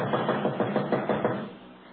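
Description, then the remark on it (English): A quick, steady series of about seven fairly firm knocks on the wooden door of Joe's office, a streak of light under the door, then fading into quiet with no one talking. “There's a streak of light under the door, too. Go ahead and knock.”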